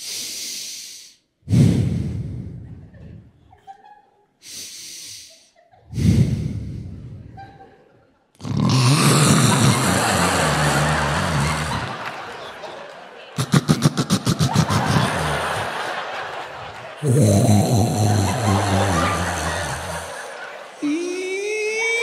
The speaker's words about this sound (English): And I love her to death, but this woman can throw down some snoring. I'm not talking little kitten purring. I'm talking Night of the Walking Dead. This is what I would try to go to sleep to every night to.